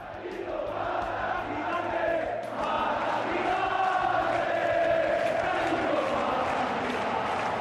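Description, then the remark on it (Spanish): A huge crowd of Rayo Vallecano fans at the Vallecas stadium chants the 1970s cry "Mata Gigantes" after Rayo beat Barcelona 2-1. It is loud and unbroken, its massed voices rising and falling in a repeated sung phrase over a steady roar. “Volvió a corearse aquel grito de los años 70, lo de Mata Gigantes.”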